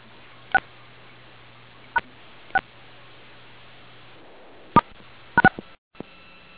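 A series of short telephone keypad tones from dialing *6 to mute a phone on a conference call, about six or seven quick beeps spaced irregularly, some in fast pairs, heard over a faint steady line hum with no talking.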